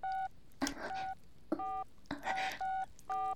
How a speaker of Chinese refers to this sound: 我一听， 立马拿出手机拨打号码。